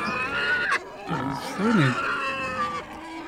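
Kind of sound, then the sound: vocal imitation, voice imitating pig grunts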